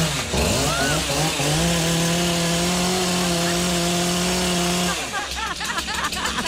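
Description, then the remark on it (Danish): A power saw revs up loudly and runs at a steady, droning pitch for several seconds, then cuts off abruptly, after being used to try to cut a plastic cup. Voices and clattering noise follow. “Ej, noget, jeg skal prøve at save. Nej. Sluk den.”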